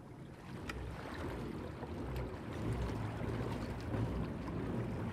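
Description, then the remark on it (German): Steady low churning and lapping of water around a pedal boat moving across a lake out toward a fountain on a warm day, with a broad rushing wash and light wind noise, continuous, no voices. “Schaukeln mit einem Pedalo gemütlich zur Fontäne raus.”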